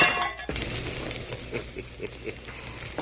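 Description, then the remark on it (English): An oil lamp is thrown onto a floor where oil is spilling and smashes: bright ringing glass tinkles, then a sharp crash, followed by a scatter of faint crackling pops and clinks as the fragments settle. “I threw the lamp on the floor where the oil is spilling.”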